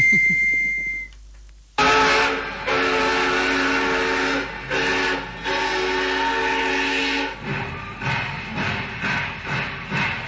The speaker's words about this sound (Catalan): Hem pujat al tren a Casetes, a veure. A Casetes és un barri de Saragossa que es troba a 15 quilòmetres de la capital.